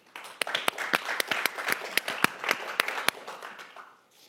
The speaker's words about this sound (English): I'm going to use a radio prerogative to say that since it's radio, could we also applaud? Maybe raise your hand quickly. And thank you. Or applaud. Okay.